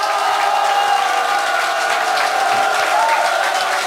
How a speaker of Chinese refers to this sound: 请继续热烈掌声鼓励。